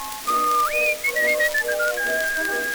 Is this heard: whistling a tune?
yes